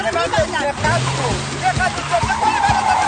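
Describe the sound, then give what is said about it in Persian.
A car driven by a doctor swerves in front of another car and changes its route through traffic: loud, continuous road noise with a droning engine whose pitch rises and dips, plus brief muffled voices mixed into the busy din. “دکتر جلوی یه ماشین میپیچه و مسیرشو عوض میکنه.”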